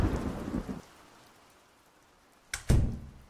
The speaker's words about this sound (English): Well, I mean, yeah, it's raining, but it's only like, what, another 10 minutes to...